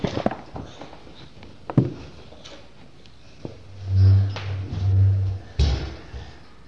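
A toy horse makes clip-clop sounds: scattered light knocks and taps, then two low, buzzing mechanical swells, ending with a sharp clack. No one speaks.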